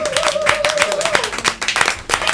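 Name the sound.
applause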